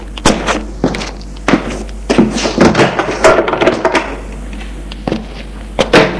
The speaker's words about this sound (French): Un groom les mène à l'étage pour une chambre, le couloir clair. Il ouvre une porte.